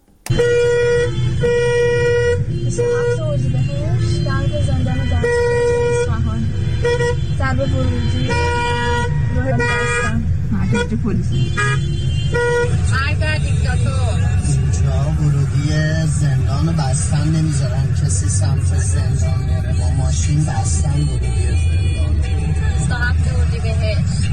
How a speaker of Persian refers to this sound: ترافیک جلوی زندان دستگرد رو نگاه کنید. تازه هنوز اینجا نرسیده به زندانه.